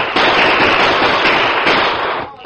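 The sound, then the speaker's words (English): In a Lone Ranger story, Tonto fires a gunshot at escaping riders; it bursts out and trails into a dense, crackling roar of noise that holds steady for about two seconds before cutting off, with no voices over it. “Tonto, shoot her, they'll get away.”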